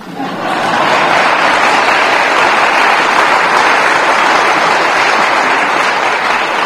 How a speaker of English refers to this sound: I'm hoping to get some applause so I can take a drink.